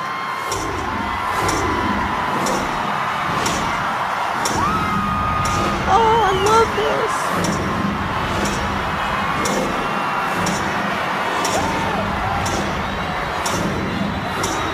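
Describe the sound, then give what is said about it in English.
A big crowd roars and cheers outdoors celebrating the New Year of 2011, with whoops and yells rising out of the din, while sharp bangs pop at a steady rhythm throughout. “As everyone goes berserk. Happy New Year!”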